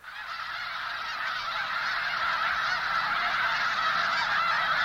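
A huge flock of migratory snow geese honks continuously at sunset in winter at the Bosque del Apache National Wildlife Refuge in the Rio Grande Valley, central New Mexico, a dense, overlapping chorus of calls that swells slightly and stays loud throughout, with no talking.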